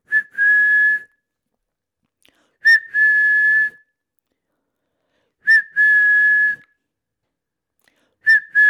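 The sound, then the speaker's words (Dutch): A person whistles the same call over and over as a training cue for cats while they eat wet food from plates: a quick upward chirp followed by a long, steady note, repeated about four times with pauses between, clear with no talking. “En van het moment dat jij de bordjes neerzet en de katten zijn lekker aan het schrokken, dat is de eerste training. Dan fluit je.”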